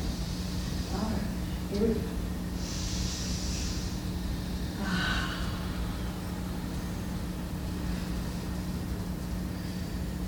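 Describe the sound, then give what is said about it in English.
A single deep breath drawn in and then released during a guided breathing exercise, airy, the whoosh of each half standing out against a steady low background hum. “And one last one. This is it for the breathing. So get all the oxygen.”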